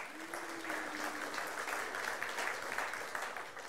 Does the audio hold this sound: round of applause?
yes